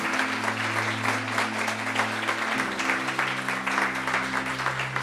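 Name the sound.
applause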